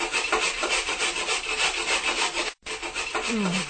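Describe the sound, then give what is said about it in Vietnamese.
A knife carves a hole into the wooden lid of a chest, scraping and gouging in a steady, rough, rasping rhythm of repeated strokes, pausing briefly once before the harsh carving resumes. No one speaks. “Tiếng dao khoét vào gỗ, phát lên thành tiếng.”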